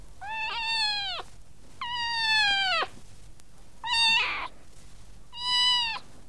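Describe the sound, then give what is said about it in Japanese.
A cat meows four times, clear, each call a drawn-out, slightly falling wail separated by short pauses; the third is shorter and breathier. No one speaks. “この声は猫だもんね。”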